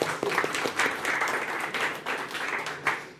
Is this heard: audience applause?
yes